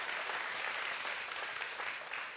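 audience round of applause

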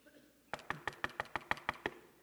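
knocking on a door

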